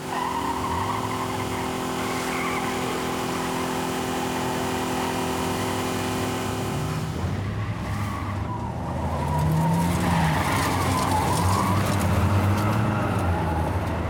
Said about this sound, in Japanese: 違うんだよ、なんか車がおかしい。 どうした？ わからない、急に失速して。